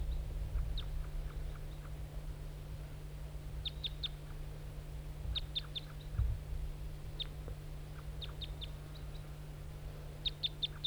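Short, high chirping bird calls repeat in small clusters of two or three every second or so, fairly faint against a steady low hum and outdoor background, with no talking.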